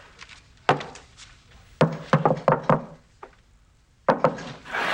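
Sharp knocks on a wooden door in an uneven, halting pattern: a single rap, a quick burst of several, a faint tap, then two more. No voices.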